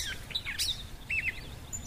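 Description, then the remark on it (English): Several birds chirp and tweet in short, high bursts over about two seconds, with a low rumble of background noise underneath. No one speaks. “And birds chirping.”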